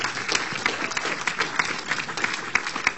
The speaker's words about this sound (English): To the entire leadership of the bridge, clap your hands, let's honor.